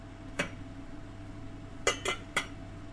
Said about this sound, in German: Jetzt einen Topf auf den Herd stellen und Öl in den Topf geben.